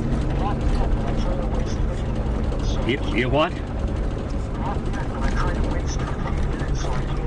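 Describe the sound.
A drilling rig runs with a steady, heavy low rumble and droning engine hum that never lets up, with brief squealing tones midway as a man standing by it talks on the phone over the machinery while recording it on video.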